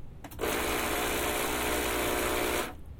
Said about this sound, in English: What I'm going to do is purge the place where the water comes out. So the group head is going to make a bit of noise. The pump does make a bit of racket.